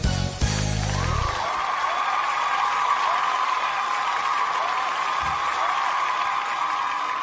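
Sustained applause from a sizable audience on a voting show welcomes the next guest, a dense steady wash of clapping at fairly even loudness, with a brief louder burst near the start.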